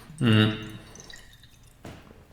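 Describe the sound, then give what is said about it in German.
Someone takes a quick sip of water: a brief voiced sound, then soft wet slurping and swallowing, and a short rustle near the end. “Ich nehme jetzt mal ganz kurz einen Schluck Wasser, weil mein Hals wird ganz trocken.”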